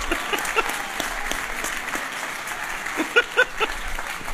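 An audience applauds a woman who has just been interviewed, a dense patter of many hands clapping at once, with a few sharper, louder claps standing out near the end.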